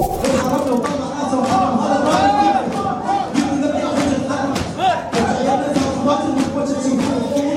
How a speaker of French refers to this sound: Alors voilà, cette foule d'hommes scande en rythme des latmiyat, des vers chantés retraçant l'épopée et le martyre des imams ou d'autres figures de l'islam chiite. Ça, c'est très traditionnel.